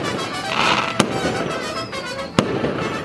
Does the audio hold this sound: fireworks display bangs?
yes